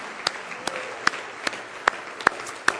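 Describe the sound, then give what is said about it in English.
A church audience clapping in praise together in a steady rhythm, sharp unison claps landing about twice a second over a soft wash of scattered hand claps, with no one speaking. “Oh, give Him another good hand clap of praise if you love Him.”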